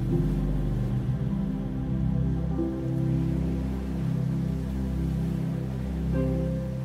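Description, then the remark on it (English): A steady, hissing wash of ocean waves rolls on with gentle swells in loudness, layered under a soft, sustained musical drone of low held tones. No one speaks. “Feel this golden light wrapped around you as you begin to relax to the sound of the waves.”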